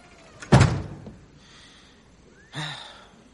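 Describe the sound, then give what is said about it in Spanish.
A house door shuts with a loud thud as a man goes into his house, followed by a quiet pause and then a fainter scraping, rattling movement a couple of seconds later. “Joe se mete en su casa y cierra la puerta.”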